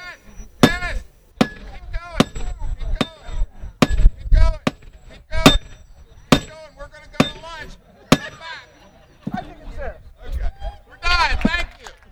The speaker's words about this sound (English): take their turn hammering a shiny spike into the railroad tie near the end of the tracks, something that has become a tradition during Lewis's train day.